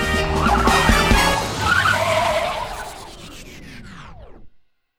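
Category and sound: vehicle, bus driving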